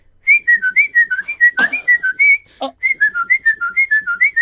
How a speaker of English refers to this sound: But it was. I hate whistling. And I do too. I hate whistling. And apparently that instrumental is 700 bars long, because it was.